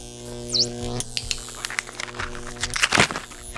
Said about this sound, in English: So hear that ticking.